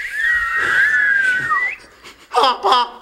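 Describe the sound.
A person reading a Christmas poem aloud imitates a whistle with one loud, sustained, slightly wavering tone lasting under two seconds, followed by a couple of short voiced sounds.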